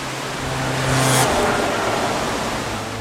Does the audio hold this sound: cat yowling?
no